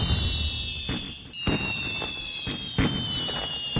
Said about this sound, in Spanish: Sí, fuegos artificiales, pero aparte de fuegos artificiales están luego el tema de los petardos, ¿no?